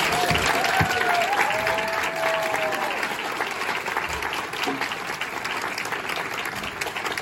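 A large school audience applauds loudly and steadily for a teacher who led the cello and violin playing this term, with cheers and whistles rising above the clapping, which carries on at a constant level throughout.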